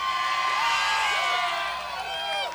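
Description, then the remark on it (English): Hundreds of people outdoors at 9660 Granite Ridge Drive cheering and whooping as a crowd-response vote, a dense wash of many voices with high-pitched shouts and yells rising above it, loud and sustained throughout. “So everybody that's here, and I'm actually looking at hundreds of people, make noise if you're standing out here to let everyone know.”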